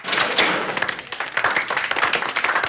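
slow

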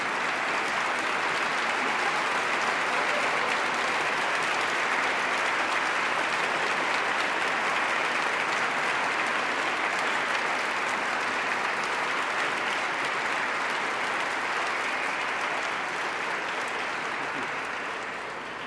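audience standing and applauding

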